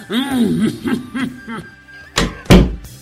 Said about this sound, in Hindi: हाँ हाँ ठीक है, तुम दरवाजा बंद कर लेना।